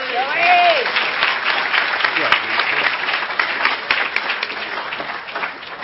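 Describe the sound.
An audience applauds steadily for several seconds, a dense wash of many hands clapping, with a short rising whoop from a voice at the start before the clapping gradually eases.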